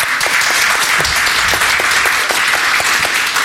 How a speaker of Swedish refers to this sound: och det har faktiskt kommit en ganska stor publik här på Historiska museet, så en applåd för publiken.